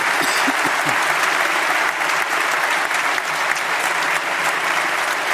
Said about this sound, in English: It's time to finish. A round of applause, please, for them all.